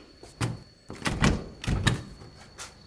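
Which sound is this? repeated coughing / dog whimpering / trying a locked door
trying a locked door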